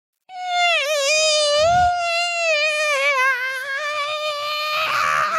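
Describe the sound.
A voice imitates a loud mosquito whine to mock how another person's voice sounds, holding a shrill, nasal, buzzing tone for about five seconds, wavering slightly in pitch without a break, with a brief rougher burst near the end.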